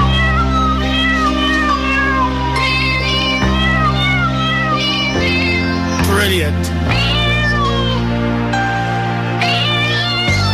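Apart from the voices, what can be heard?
cat meowing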